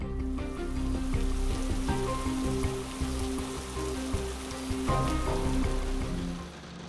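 Steady rain falling over a city in a dense, continuous patter that holds at an even level throughout, with a low sustained tonal hum underneath and no voices.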